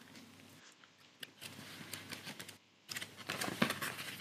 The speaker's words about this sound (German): Das hört sich so schön an, wenn du diese Karten mischst und jetzt blätterst